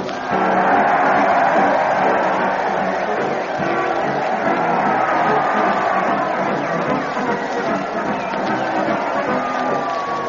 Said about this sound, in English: That crowd, they're cheering madly as they march along with Fred Allen and his parade to the old town hall.